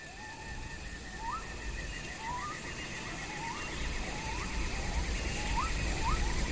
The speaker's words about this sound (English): Yeah, so here there's clearly a bit more going on. You can hear different animals, cicadas. Mm. There's even sort of a low rumble of thunder in there somewhere. Yeah, it's an elephant. Yeah, maybe it's an elephant.